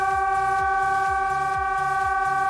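Civil warning sirens sounding in a test in western Gijón, Asturias, around El Musel, Beriña and La Calzada, hold a steady, loud, multi-toned wail at a constant pitch, with faint rhythmic low thumps pulsing underneath and no voices.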